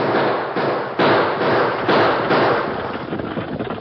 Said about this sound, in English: Choctaw and Rance Purdy saw him coming. They opened fire, but the distance was too great for accurate shooting.